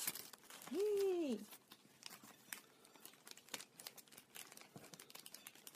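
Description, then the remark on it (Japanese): Faint, irregular crinkling and crackling of the plastic film wrapper around a cake as it is eaten, scattered sharp crackles continuing throughout, with a short rising-and-falling vocal sound near the start. “ちょっとバリバリ言いますけど、 うん、私はカツンカツンと音が出る。”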